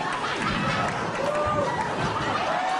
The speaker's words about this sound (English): There you go. Raucous applause for Conan playing the theremin.